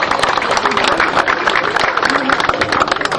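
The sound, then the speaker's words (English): An audience gives itself a round of applause for coming, clapping steadily throughout, a dense, continuous patter of many hands at a fairly loud level with no clear voices standing out. “Please give yourselves a round of applause for coming here today.”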